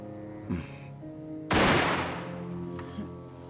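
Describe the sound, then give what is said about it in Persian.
A single loud, sharp test gunshot, fired from 70 centimetres to check gunpowder residue, cracks out and rings into a decaying tail, preceded and followed by faint handling clicks over a steady low background hum. No one speaks. “بقایای باروت از فاصله 70 سانتیمتری. میشه خودم شلیک کنم؟”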